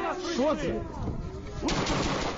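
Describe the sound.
Loud, dense gunfire fills a street in a Ukrainian city during the war, a heavy burst erupting partway through, while raised voices of people on the street sound briefly beneath the clatter.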